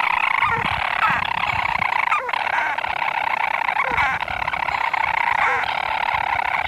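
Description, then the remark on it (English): A dense chorus of storm petrels calling on a fine, calm summer night on an island with an estimated 100,000 breeding pairs: many overlapping purring, churring calls form a steady mid-pitched drone, broken now and then by sharper hiccup-like notes. “And from where I'm sitting now, I can now see dozens of these little birds flying in the air, and people have estimated that there are probably 100,000 breeding pairs of storm petrels on this island.”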